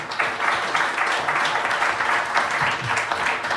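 A crowd applauds steadily, many hands clapping in a dense, continuous patter that holds at an even, fairly loud level throughout, with no voices cutting through.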